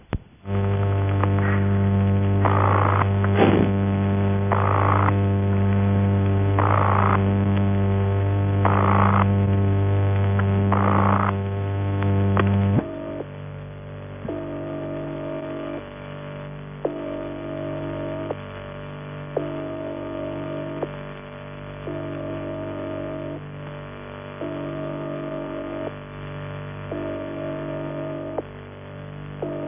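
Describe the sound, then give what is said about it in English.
A harsh, buzzy telephone ringing tone built from mains hum pulses in regular bursts over a steady drone, then gives way to a quieter, thinner tone repeating in even short beats. No talking. “Examples follow of the Post Office UAX5 and a 200-line PAX, both of these tones being vibrator-produced, and also the ringing tone on a large railway PAX using 50 Hz mains hum but timed by interacting relays.”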